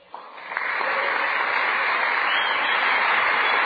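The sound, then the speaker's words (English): A crowd, asked to applaud, breaks into applause that swells quickly within the first half second and then holds as a steady, dense roar of clapping, fairly loud and filling the space. “Applaud.”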